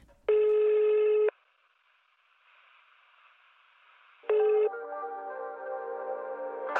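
A telephone rings twice in electronic, buzzy bursts about three seconds apart, with faint line hiss between them, then a steady droning tone carries on after the second ring, on a call to the Bezotel phone line. No one speaks.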